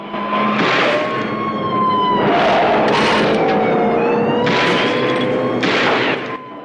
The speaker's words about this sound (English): He rams their car.